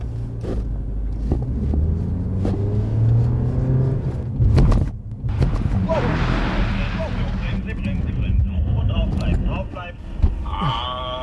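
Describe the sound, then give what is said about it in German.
During a driving safety training, a car engine rumbles low, then a broad hissing rush of tires skidding sweeps in as a loss of control is simulated and the driver countersteers, followed by high squealing tones as the vehicle slides, with a few sharp knocks along the way. “Also jetzt wird auf jeden Fall simuliert, dass ich die Kontrolle über den Wagen verliere und gegensteuern soll und dann mal spüre, ja, wie schwer das eigentlich ist dann.”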